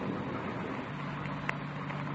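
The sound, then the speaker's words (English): A faint car engine hums low and steady as a car comes up the road in Elysian Park at about 5 a.m., beneath a constant wash of rain and wind noise during a thunderstorm, with a brief click partway through and no voices. “A car coming up the road toward us, sounds like.”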